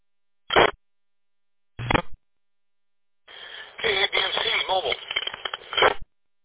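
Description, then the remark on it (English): Two short bursts of radio static crackle, then a longer stretch of hissing, band-limited noise with a garbled, unintelligible voice buried in it, like a weak transmission breaking up. “I can hear major static.”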